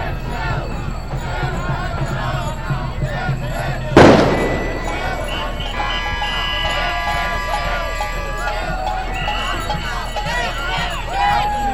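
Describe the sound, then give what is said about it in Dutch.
A single sharp bang from a firecracker thrown under poles cracks out amid a noisy, chattering crowd, its sound ringing briefly before the crowd murmur carries on. “Nou, de palen beginnen te stijgen van de rotjes die eronder gegooid worden.”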